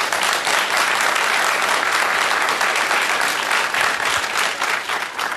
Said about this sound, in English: and you're going to have to applaud loud because I'm going to put the microphone so audiences can listen to this. How many of you voted for Barack Obama by applause?